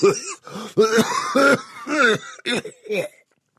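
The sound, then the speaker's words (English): A harsh, hacking coughing fit into a handkerchief: six or seven rough, throaty bursts in quick succession with brief gaps, fading off at the end, apparently performed by a voice imitating the cough. “Jack coughed into a handkerchief, belly-ripping Doc Holliday kind of coughing.”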